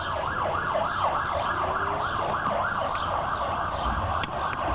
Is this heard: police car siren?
yes